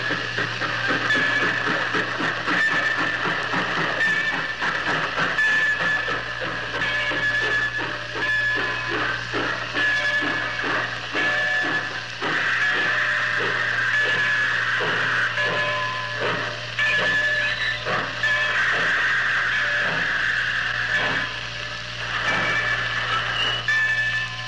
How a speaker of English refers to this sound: How do you do, ladies and gentlemen? You have just heard the arrival of the gold medal fast freight.